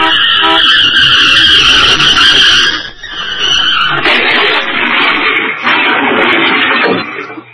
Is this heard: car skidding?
yes